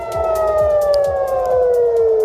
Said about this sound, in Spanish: Al otro lado del mundo continúa el intercambio de ataques con misiles y drones entre Israel e Irán. Así suenan las sirenas de evacuación en la ciudad de Tel Aviv durante la noche.